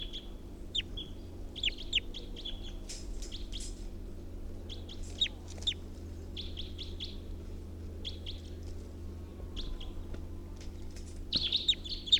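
Repeated bright chirps and short whistled calls from a bird, numbered 348, being recorded, coming in quick bursts with brief pauses, over a steady low hum of background noise.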